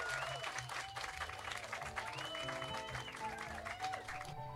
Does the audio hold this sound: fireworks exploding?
no